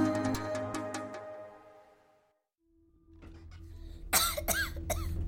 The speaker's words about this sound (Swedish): Den lilla träsängen knakar och gnisslar av flickans häftiga hosta. Intill de ljuslila tapeterna och fönstret mot Stockholms plåtlagda takåsar ligger hon med svett i pannan.